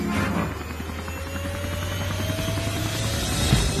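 A steady low droning hum with a rapid pulsing beat of a helicopter's rotors chopping, holding fairly loud and constant throughout with no voices.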